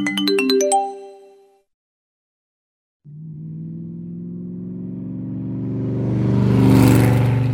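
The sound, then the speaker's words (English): A car horn gives a quick burst of honks, then after a short silence an engine rumble builds and swells loudly as the car drives by, with no voices. “A car goes by. Beep, beep!”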